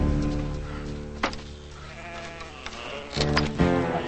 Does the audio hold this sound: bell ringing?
no